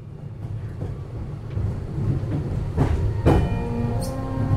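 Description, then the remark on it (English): A new bendy tram rumbles along its rails in Zurich, Switzerland, a steady low roar punctuated by sharp clanks and screeching metallic tones as it rolls past, with no one speaking. “Bendy new trams are zipping through Zurich and helping the city to stay on track for a cleaner future.”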